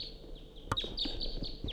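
Repeated sharp, high-pitched kip calls from quite a few wild type 2 crossbills coming around, several short chirps in quick irregular succession over a faint steady background hiss, no talking.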